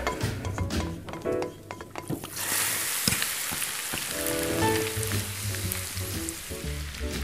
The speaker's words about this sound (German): Na, überall Töpfe und Pfannen und alles voll und blubbert und...